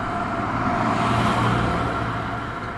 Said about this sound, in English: You could never see the interstate. Now you can see the trucks coming down the interstate. You can see them from the backyard.